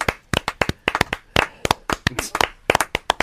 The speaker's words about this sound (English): Drown her out with the claps. Drown her out with the claps.